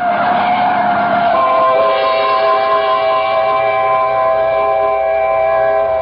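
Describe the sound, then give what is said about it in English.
A truck skids on a street toward a woman crossing in the middle of the block, with a loud, sustained tire screech, its shrill squealing tones holding steady for about six seconds over a rumbling engine, with no voices. “Look out for the truck”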